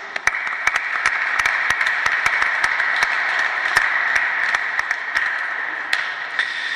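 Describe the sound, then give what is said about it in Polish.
Steady audience applause, a dense wash of many hands clapping at an even loudness for several seconds, with a few sharper individual claps popping out above the crowd. “Myślę, że dla was wielkie brawa.”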